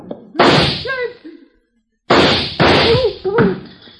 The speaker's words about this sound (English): I think that did it. Come on, let's try it. Huh? Try what? The door, you idiot. I fired at the lock.